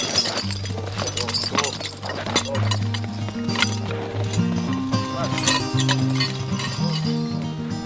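The hooves of a horse about 9 years old and weighing about a ton clip-clop in an uneven rhythm, mixed with clinks and knocks, all over a steady low droning tone that runs throughout.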